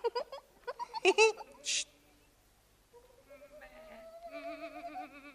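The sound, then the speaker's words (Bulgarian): Two young goats, being led to graze in a field, bleat in wavering, quavering calls that stretch across the second half, moderately loud, after a brief burst of voice and clatter at the start. “И на паша из полето води своите две козлета.”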